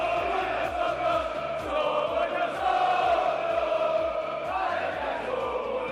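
A large crowd of football fans ("los Che") chants loudly in unison in protest against the club owner Lin, a dense wall of shouting voices carried on a steady, pulsing rhythm that holds for the whole stretch.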